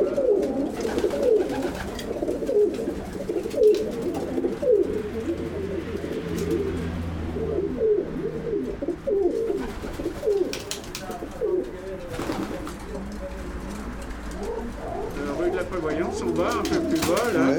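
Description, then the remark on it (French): Several homing pigeons coo continuously in a busy chorus, their soft throaty warbles overlapping in a steady rolling murmur, with a faint low hum underneath. “Avec ma femme, j'en ai causé et puis j'ai eu des pigeons voyageurs et depuis, j'ai des pigeons voyageurs.”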